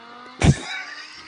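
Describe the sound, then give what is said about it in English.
Four Lamborghinis driving by on William Nicole, recorded on a dash cam: a quick loud rush of engine noise bursts past, then fades into a steady, moderate hum of cars moving along. No one speaks. “But I mean, it was 4 Lamborghinis on William Nicole. That sounds like a Prius.”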